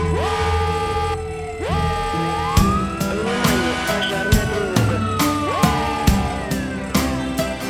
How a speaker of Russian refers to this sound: пожарная тревога. Внимание, пожарная тревога.